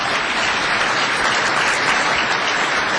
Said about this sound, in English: Under Governor Scott Walker, sure, clap for him.